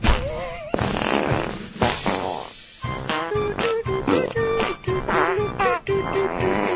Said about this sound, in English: Is that Amy Goodman doing the fart joke? Yeah, that's Amy Goodman farting.